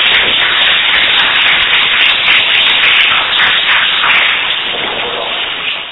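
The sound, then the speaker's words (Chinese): An audience claps loudly and steadily to thank a Taoist priest, a dense crackle of many hands that holds for about six seconds before easing slightly at the end. “超级掌声来谢谢光妙道长”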